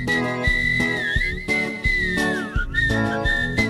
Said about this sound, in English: Well, have you ever heard a walrus whistle? Old Mr. Walrus whistles while he waddles alone, watching the whales wagging their tails to the beat of the W song.